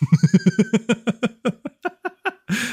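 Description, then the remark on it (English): A tortoiseshell cat lets out a rapid string of short, chirping meows, about a dozen quick bursts that slow slightly, ending in a longer, rougher note. Fairly loud, with no talking. “Look at that tortoiseshell cat.”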